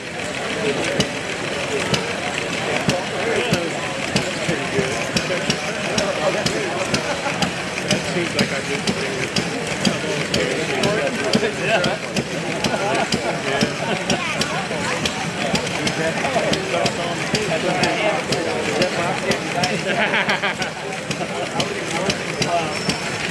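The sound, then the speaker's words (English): Small model gas engines run steadily at the Cabin Fever Model Expo of 2024, a dense, rapid popping and chugging that stays loud, with faint voices murmuring in the background. “This video will focus primarily on gas engines, hit and miss engines, steam engines, trains, and some boats.”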